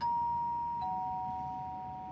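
An apartment doorbell, whose bell panel lists company names with an IT company at the top, rings with two clear electronic tones, one at the start and a second about a second later, each ringing on with a long, steady sustain.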